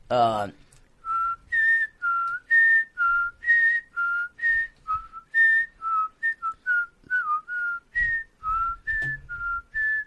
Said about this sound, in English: That hasn't stopped me from whistling. I whistle every day. Especially now, more than ever. Can you give us like a demonstration? What might you be whistling?